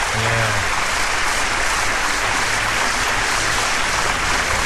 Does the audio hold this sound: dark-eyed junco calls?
no